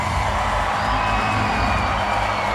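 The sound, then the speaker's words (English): A large crowd cheers and whoops loudly and continuously, a dense wash of shouting voices with no pauses, as a robotics team from Afghanistan walks into the opening ceremonies of a global robotics challenge in Washington, D.C. “When the robotics team from Afghanistan walked into the opening ceremonies at the first global challenge in Washington, D.C., the crowd went wild.”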